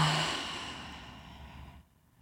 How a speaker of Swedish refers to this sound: Och andas långsamt ut genom munnen. Känn hur luften fyller dina lungor och hur du långsamt släpper taget vid utandningen. Vi andas så en gång till, in genom näsan, ut genom munnen.